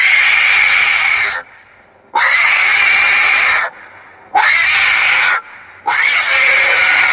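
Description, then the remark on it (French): Four loud, harsh, high-pitched squeals like a pig being slaughtered, each lasting over a second, separated by brief pauses, with no talking. “Un cochon qu'on égorge.”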